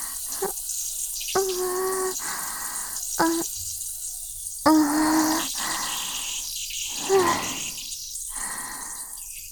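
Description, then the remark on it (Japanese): A person urinates, the stream splashing in a steady hissing patter, breaking off and resuming several times in uneven bursts, with no voices. “だっておしっこだよ。流さないとダメ。”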